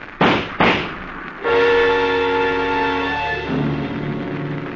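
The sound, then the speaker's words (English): Two sharp, loud pistol shots crack in quick succession, then a sustained, harmonically rich droning tone swells in and holds, shifting lower near the end. “The idea of the rod, Frankie, is this.”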